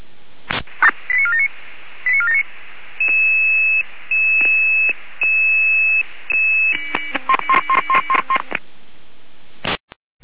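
A sequence of electronic radio alerting tones from the Jena dispatch control centre in Germany: short chirping bursts, a few longer steady beeps, then a rapid cluster of stepped tone pulses, all band-limited like a radio channel, with a click at the end.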